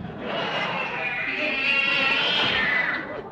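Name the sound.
cat yowling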